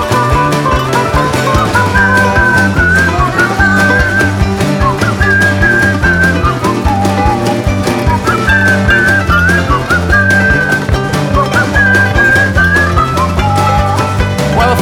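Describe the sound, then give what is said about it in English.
A person whistles a bright, wavering melody over a steady band accompaniment with drums and bass, the tune rising and falling in short phrases throughout. “Yeah, I don't wanna hear the corpses talk, and I'll whistle past the graveyard when I walk.”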